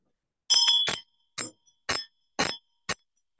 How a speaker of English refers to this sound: Then the bell at the navel level, so Vajra heart level, then you ring.